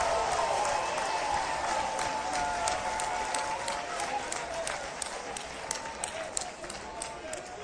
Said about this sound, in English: Talking today to Governor Blanco. I'm confident we're going to have a smooth transition. I also want to start. Let's give her a round of applause as well.